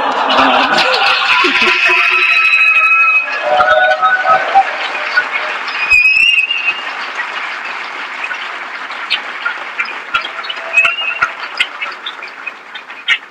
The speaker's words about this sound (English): People always applaud for that, and I'm so confused. You should be booing, because it says that if a company does the right thing, they get punished by the marketplace.